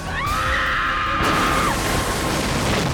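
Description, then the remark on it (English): A woman screams from a tiny farming village at the base of a hill, one long, high, sustained cry lasting over a second before cutting off, followed by a loud, steady wash of rushing noise with no talking. “The noise was unmistakable. A woman's scream coming from the tiny farming village at the base of the hill.”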